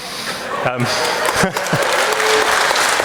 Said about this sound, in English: I was not looking for a round of applause for the Tories, but there you go.